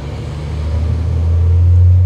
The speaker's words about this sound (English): Until a roaring logging truck drives by, a reminder that this is, in fact, still West Virginia.